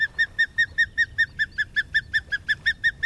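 An osprey calling: a fast, steady series of about sixteen short, high, whistled chirps, evenly spaced, ringing out clearly over a faint low rumble.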